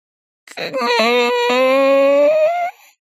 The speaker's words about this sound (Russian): Как вдруг новый звук, ближе, чем свист ветра, разбудил его опять. Это скрипнула дверца шкафа.